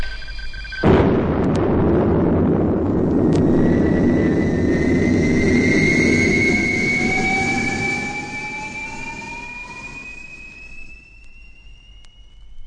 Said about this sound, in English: Yes, that's a spaceship taking off. I'll be in one of them soon, like a modern dragon with a roar and a hiss and a tail stretching from Earth to sky and way beyond.